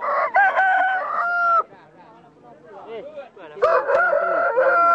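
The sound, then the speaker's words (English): A rooster crows loudly twice, each long call with a strained, harmonic rise, separated by a stretch of softer clucking and murmuring from chickens kept in cages outside villagers' tents. “Villagers keep their chickens in cages outside their tents.”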